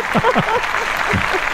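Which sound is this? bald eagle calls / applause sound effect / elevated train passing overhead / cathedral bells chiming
applause sound effect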